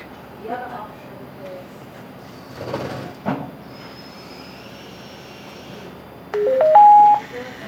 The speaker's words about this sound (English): This audio postcard is about downloading data with an acoustic modem. And these are the sounds you're going to hear next.